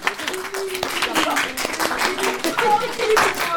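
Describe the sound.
An audience applauds steadily, a dense wash of many hands clapping at a fairly loud, even level, with faint voices mixed into the noise.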